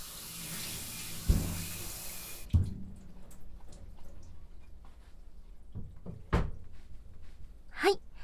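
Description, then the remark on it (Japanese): A tap runs in a steady hiss for a couple of seconds while a cutting board is rinsed before cutting chicken, then the water shuts off and the board clunks and knocks several times as it's handled. “そうですね、鶏肉を切る前に一度洗いましょうか。”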